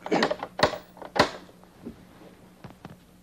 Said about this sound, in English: Before we can talk to Daniel, we have to knock on the clock. Right here. Daniel? Daniel? No. Are you there? We'll just knock one more time.